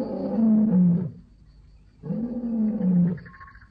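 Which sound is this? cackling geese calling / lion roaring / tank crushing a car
lion roaring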